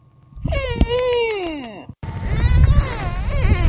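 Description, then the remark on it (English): Dolphins in a marine park vocalize in the middle of the night, picked up by underwater microphones: long, wavering, cry-like whistles that slide downward in pitch, broken by a sudden cut, then continue over a rougher, noisier background. “a bunch of dolphins in this marine park were making strange noises in the middle of the night.”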